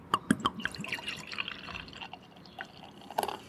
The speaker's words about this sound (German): Also Zisch ist drauf und ich bin sehr gespannt, denn jetzt wird's mal ins Glas laufen.